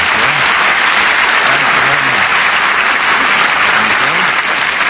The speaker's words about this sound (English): Say, that applause had a lot of life to it. Did you sense it as I walked on?